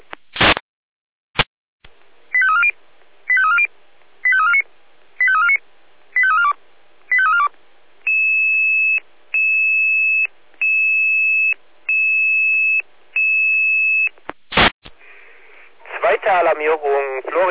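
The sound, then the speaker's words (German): A fire brigade pager alerting tone sequence over a radio, alerting to a fire call from a triggered home smoke detector: a row of six warbling chirps, then a steady series of evenly spaced electronic beeps, framed by radio clicks, with a voice starting at the end. “hier mit Alarmierung.”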